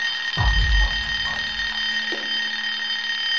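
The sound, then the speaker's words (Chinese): A mobile phone rings inside a stopped car on a road by a woods, with a steady, high-pitched electronic tone that holds throughout, over a low hum, with a dull thump near the start and no voices. “突然李军的手机铃响起，李军连忙打开手机”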